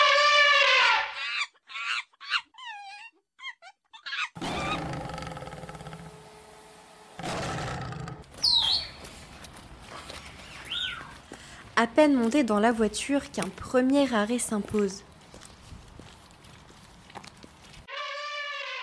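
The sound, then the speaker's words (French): Two elephants in their enclosure trumpet and rumble in a loud, drawn-out series of harsh, wavering blasts through the middle as they run for shelter on their keepers' orders, with a voice speaking briefly at the start and end. “Vous l'aurez reconnu, nous sommes dans l'enclos des éléphants.”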